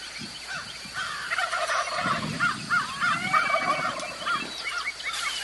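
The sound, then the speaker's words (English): A Rio Grande wild turkey gobbles close by, its loud rattling gobbles rolling one after another over a steady low rush of wind, with no one talking. “That guy was close. There's your Rios.”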